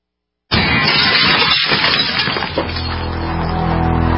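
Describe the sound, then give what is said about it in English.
After a brief silence, a home's window glass smashes with a sudden, loud crash in a burglar's smash-and-grab break-in, and shattering, splintering debris clatters for about two seconds before giving way to a steady, lower hum. “In the U.S., one in every 50 homes will have a break-in this year. Burglars call it smash and grab.”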